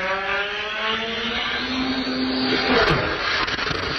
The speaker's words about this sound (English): That's actually... A little morbid, but that's that's that plane crash that happened earlier this week. That's actually real? Yes.